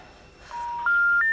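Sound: mobile phone call tones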